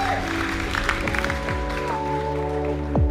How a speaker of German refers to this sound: Komm, wir geben mal einen mächtigen Applaus.